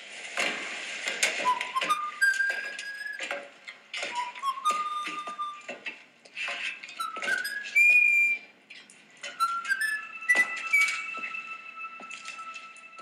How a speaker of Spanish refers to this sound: y no me perdonaría no mencionar el homenaje que le hace Ryan Reynolds a Indiana Jones cuando silba su canción.